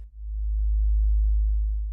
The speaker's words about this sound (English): Now listen, as you start to hear the soft hum of the submersible's engine, a gentle vibration that echoes through the water, through your mind. It's a reassuring, calming noise, the texture of it, the gentle pattern, the bass hum.